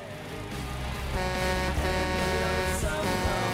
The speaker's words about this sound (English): As a truck overtakes them, they signal for the driver to sound his horn.